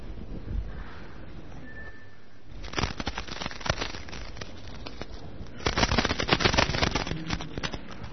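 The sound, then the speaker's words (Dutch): A bunch of keys jingles with rapid, bright metallic clinks, starting after a quiet opening and swelling into a busier, louder shake near the end. No one speaks. “Een sleutelbos, dat is de eerste.”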